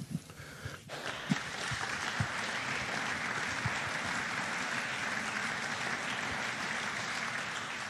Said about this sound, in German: Total berechtigter Applaus